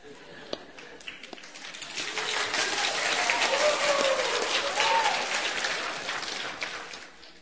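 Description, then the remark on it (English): An audience breaks into applause for the speaker, starting with a few scattered claps that swell into a steady, dense wash of clapping before tapering slightly, with faint murmurs and a voice or two underneath. “I don't normally get clapped for.”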